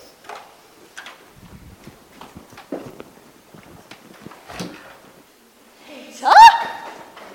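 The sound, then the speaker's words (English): A series of sharp, irregular knocks on a door in Jerusalem sounds at moderate volume, followed near the end by a brief louder tonal squeak or cry. “Whoever is knocking is going to wake all Jerusalem, and then we really will be in trouble.”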